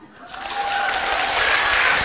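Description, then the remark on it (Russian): An audience breaks into applause that swells within a moment and holds steady as a dense, loud wash of many hands clapping, with a faint whistle-like tone threading through. “Эти не хлопают.”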